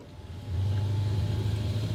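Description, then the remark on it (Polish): A Skoda Octavia RS engine idles low, then swells into a louder, steady rumble as the car pulls away on road tyres for a warm-up lap, with no voices. “Słuchajcie, więc ruszam za kierownicą Skoda Octavia RS, to Łódź.”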